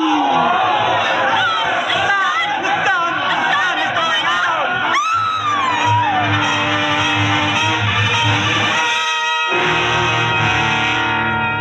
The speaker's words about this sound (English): The crowd went mad with fear.